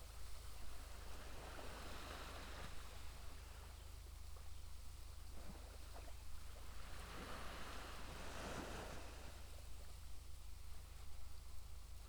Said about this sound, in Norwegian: Samtidig som du hører lyden av bølgene. Vind.